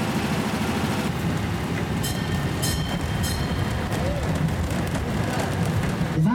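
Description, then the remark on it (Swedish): A small tourist train rumbles steadily along the main street on Norrbyskär, its low, continuous running noise filling the scene, with faint rattles and brief high metallic squeaks from the wheels. No one speaks. “en tågtur som kommer guida er genom Norrbyskärs historia”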